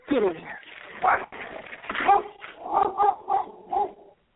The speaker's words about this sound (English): are you trying to walk the dogs, or are they taking over the phone? They're taking over the phone.